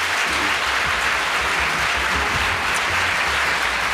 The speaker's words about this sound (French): Je voulais vous remercier de tout cœur. Vous pouvez vraiment applaudir nos deux intervenants.